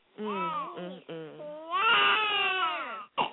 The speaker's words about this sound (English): Oh, my goodness. I'm so sorry, y'all. But y'all know I got a newborn baby. I can't mute his ass.